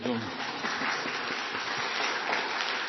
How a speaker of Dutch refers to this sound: en dan dat de gemeente klapt.